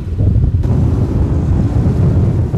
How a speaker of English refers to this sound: Once out of the bay, the crew gets ready to face the fierce wind and choppy waters. You better hang tight when an agent yells, "Coming up," meaning the boat is about to pick up speed. Coming up!